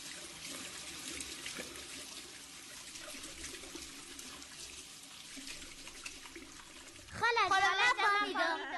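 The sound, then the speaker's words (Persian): A tap runs in a steady, even hiss for about seven seconds, as if someone were washing their hands, then a voice starts talking over it at the end. “بخیالم که یک نفر دست رویش میشست.”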